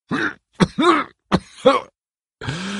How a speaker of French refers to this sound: J'en ai par-dessus la tête de vous entendre parler en langage codé, tous les deux, dis-je entre deux terribles quintes de toux.